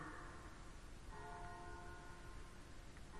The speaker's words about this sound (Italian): Le campane suonano per noi